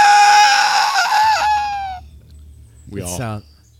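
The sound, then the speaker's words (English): A high-pitched, gurgled scream, heard faintly in the distance, wavers and trails off, then a low rumble of a Leviathan growl sets in and a second, shorter warbling cry rises and falls over it. “And faintly in the distance, they hear a high-pitched, gurgled scream.”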